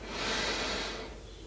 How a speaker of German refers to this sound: Wir nehmen den ersten tiefen Atemzug und atmen ein.